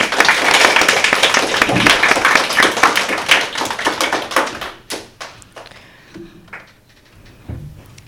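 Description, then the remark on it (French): A crowd applauds the referees of a school quiz game after they scored 3 points, with dense, steady clapping for about five seconds, then it thins into a few scattered claps and fades out, with a faint voice near the end. “On peut les applaudir.”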